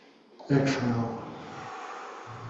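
An audible breath drawn in sharply through the nose during a guided breathing practice, then sustained as a long airy rush that fades gradually over about two seconds, with no talking.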